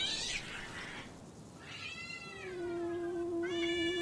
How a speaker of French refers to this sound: D'où il vient, ce chat ? Attends, regarde, il crache vers les mains. On dirait qu'il va l'attaquer.